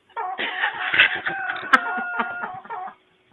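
Chickens clucking in the Outback Steakhouse kitchen, a busy, overlapping flurry of clucks and short squawks that runs steadily for about three seconds and then stops, with no one talking.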